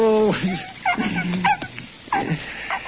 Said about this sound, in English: Doc, this dog's sicker than a pig. He's about to die.